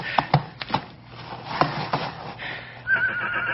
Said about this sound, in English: Stop whimpering, you ornery colt.